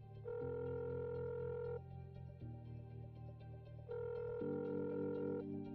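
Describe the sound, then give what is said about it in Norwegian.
A telephone rings on the line after a number is dialed, steady electronic tones alternating in a repeating pattern of long bursts, loud, with no voices. “Til slutt slår vi nummeret.”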